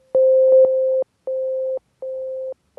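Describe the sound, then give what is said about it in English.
A synthesized C note played repeatedly on a MIDI keyboard connected to a computer: one longer held tone, then three shorter identical presses with brief gaps, clean, with no voices. “I can also change what instrument plays that C.”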